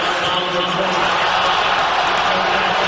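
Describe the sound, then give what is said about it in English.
A large arena crowd at a basketball game reacts to a replay on the big screen with a steady, loud roar of mingled voices that holds at an even level for about three seconds, without sharp peaks or pauses. “Crowd reacting to the replay on the big screen.”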